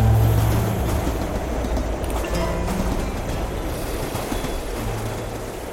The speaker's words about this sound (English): The train pulled noisily into the station that cloudy, cold Monday afternoon.